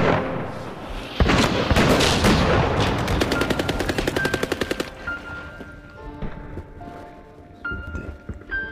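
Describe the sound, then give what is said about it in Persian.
Heavy battle noise as an Iraqi PC-7 aircraft bombs a lake point by point: a loud roaring blast gives way to rapid, evenly spaced bursts of automatic gunfire, then scattered sharper shots and crackling explosions with high whistling tones over a rumbling background. “هواپیمای PC-7 عراق نقطه به نقطه دریاچه را بمباران می کرد”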